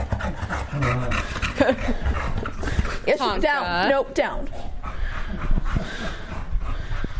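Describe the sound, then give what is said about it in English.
A dog whimpers in a high, wavering whine for about a second, with rough panting around it, while a person gives short commands over the noise. “I can't take a picture of you, so I gotta record you. All your lovely noises, eh?”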